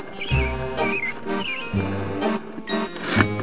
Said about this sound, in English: a bird.